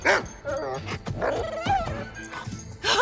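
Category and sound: animal, dog barking and yipping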